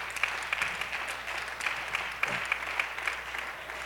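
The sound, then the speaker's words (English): An audience claps hands in a dense, steady patter of many overlapping claps, moderately loud with sharper accents scattered throughout; no voices are heard over it. “Oh, you ought to clap your hands right now to that.”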